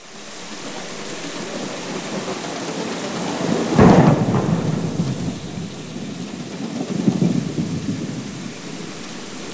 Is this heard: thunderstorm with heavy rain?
yes